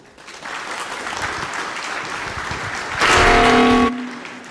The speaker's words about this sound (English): Please enjoy the talk with a round of applause for